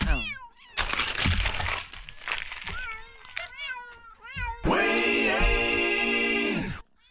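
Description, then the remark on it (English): A cat stuck in a garbage disposal at a house in Wayne, Pennsylvania, meows repeatedly in short rising and falling cries, then lets out a long, loud, drawn-out yowl near the end, with rustling, crinkling noise underneath early on. “A cat stuck in a Wayne garbage disposal was rescued.”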